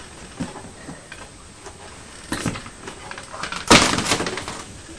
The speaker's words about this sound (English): You're running your fingers over the mesh bookcase, pretending it's a musical instrument, aren't you?